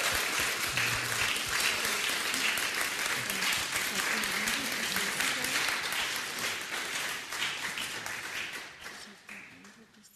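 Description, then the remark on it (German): An audience at a church service claps steadily to give God praise, dense overlapping applause with scattered voices and cheers underneath, holding strong before tapering off toward the end. “Lass uns Gott klatschen.”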